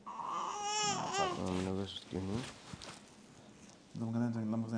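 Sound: baby babbling and fussing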